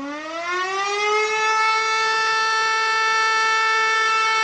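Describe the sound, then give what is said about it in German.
A civil defense siren winds up from a low pitch, rising over the first second into a loud, steady wail of stacked harmonic tones that holds unbroken to the end. “Auch der Feueralarm wurde vielerorts überflüssig.”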